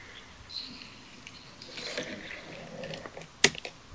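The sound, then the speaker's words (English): Keyboard keys clacking irregularly as it is cleaned, a scattering of soft clicks and rattles followed by one sharp, louder clack near the end, with no one speaking. “Just cleaning my keyboard.”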